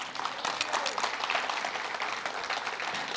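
A crowd claps steadily throughout, a dense, crackling wash of many hands at a fairly even, moderate loudness. Nobody speaks over it.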